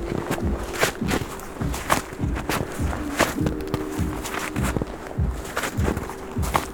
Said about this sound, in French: Cela certifie que nous ne sommes pas les seuls êtres vivants à fouler cette neige.